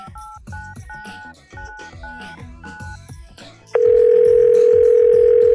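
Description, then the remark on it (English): A long, rapid run of touch-tone beeps as a very long phone number is dialed to call Santa Claus, clear, then a loud, steady tone cuts in and holds to the end. “Let's just, He has a very long number.”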